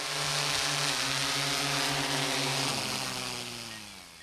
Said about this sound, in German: Ja, und bevor jetzt einer losschimpft das nächste Mal über die lästigen fliegenden Lärmschleudern, erst mal schauen, ob die Drohne nicht vielleicht im forstlichen Staatsauftrag unterwegs ist.